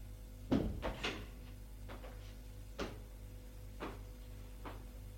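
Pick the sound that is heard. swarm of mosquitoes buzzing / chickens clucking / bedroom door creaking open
bedroom door creaking open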